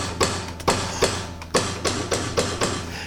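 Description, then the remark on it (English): A steady series of about eight sharp hammer blows, evenly spaced roughly twice per second, each a loud knock over a continuous low background hum, with no voices. “and then I fucking grab my hammer and just”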